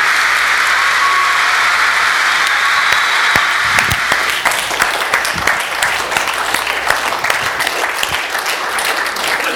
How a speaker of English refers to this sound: Amen. Now that's worth a hand clap, isn't it?